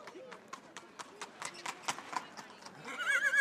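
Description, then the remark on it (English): Horses at the annual Carrimee Horse Fair in Ireland, where horses are traded on the side of the street. Hooves clip-clop in a steady, even rhythm on a hard surface, growing slightly louder, before a horse lets out a shrill, wavering neigh near the end. “We're here at the annual Carrimee Horse Fair, where horses are traded on the side of the street, which has been happening for hundreds of years.”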